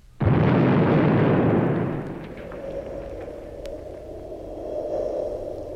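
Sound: nuclear explosion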